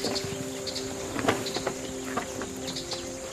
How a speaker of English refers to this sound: because her ears are particularly flappy and loose, and so she's always slapping them against her shoulder blades. But they're always flapping them, and you can hear when they slap against their bodies the sort of sound they make.